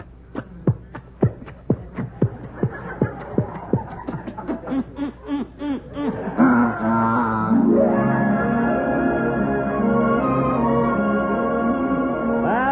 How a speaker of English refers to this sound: And as we board our faithful little boat, it is off with a roar of its mighty engine.